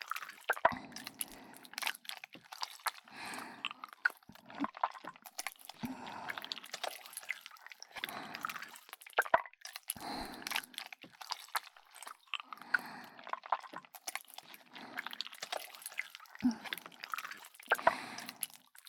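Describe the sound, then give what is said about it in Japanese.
Wet, squishy material is squeezed by hand over and over in steady bursts, with small air bubbles popping and crackling through each squeeze. No one speaks. “ぎゅーって握ったら、空気の泡がプチュッ、プチュッっていって、気持ちよくなっちゃいますね。”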